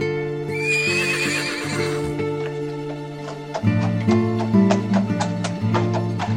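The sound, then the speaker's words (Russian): An old horse whinnies loudly near the start, then steady hooves clip-clop at a walking rhythm over a low rumble as it pulls a cart along a road. “Запрягли они старую лошаденку, забрались в телегу и отправились в путь-дорогу.”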